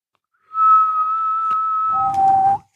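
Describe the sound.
A single loud, steady whistled note held for about a second and a half, then dropping to a lower note that fades out breathily. No one speaks.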